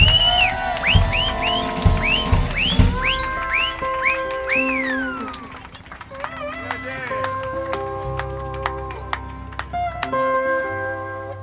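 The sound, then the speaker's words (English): A lively crowd cheers and whoops for the event's organizer, with rising shouts and scattered clapping building into steady applause that lasts several seconds, fairly loud. “One round of applause here”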